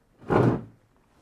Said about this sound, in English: I upset him so bad he started kicking the chair.